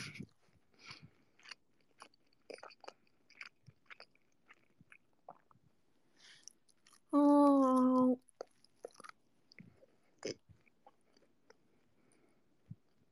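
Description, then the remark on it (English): Chewing ASMR: many crisp, irregular crunches and wet mouth clicks, fairly quiet, broken midway by a brief, loud tonal cry lasting about a second. “I didn't expect you guys to be able to hear me chewing.”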